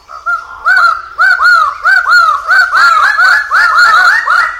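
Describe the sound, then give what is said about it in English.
A Raggiana bird of paradise gives a loud series of harsh, honking calls, about a dozen notes in quick, uneven succession with no voices present. “Birds like this Raggiana bird of paradise.”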